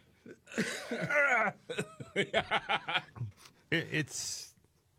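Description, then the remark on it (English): Breathy laughter comes in short rhythmic bursts, broken up by rough coughs and throat-clearing, with a final harsh burst near the end. “I'm still getting over this thing, and every time I laugh, I cough, so I'm trying not to laugh.”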